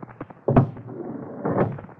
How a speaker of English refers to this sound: you might bolt the door before you sit down.